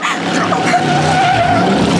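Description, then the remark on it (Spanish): A car skids on an oil slick left on the road, with a sustained squealing, sliding sound, loud, running steadily for the full two seconds without a break. “Ha dejado una estela de aceite en la carretera. Oh, ¡aceite! Afiánzate bien, Solín. Oh, no puedo detener el carro.”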